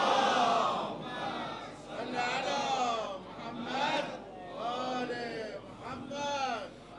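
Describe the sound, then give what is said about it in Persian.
An audience at a Persian-language religious sermon chants salawat together in unison, a loud sustained wash of many voices rising and falling in several drawn-out phrases across the whole clip. “البته من نگفتم که صلوات بفرستید، حرف اونو گفتم، اما چون امر خیری است، حالا یه صلوات دیگه هم بفرستید.”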